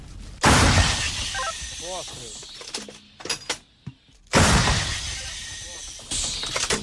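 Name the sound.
artillery cannon firing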